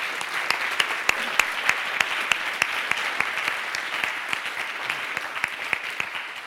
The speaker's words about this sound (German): Wir sollten Gregor Brinkmeier und Daniel Werner nochmal sehr, sehr herzlich danken. Klatscht ruhig nochmal.